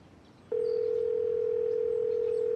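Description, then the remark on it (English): A steady electronic phone tone starts after a short pause and holds unbroken for about two seconds, like the ringing heard while an outgoing call connects, as someone at a cafe phones a friend. No one speaks. “I can phone him. Hang on.”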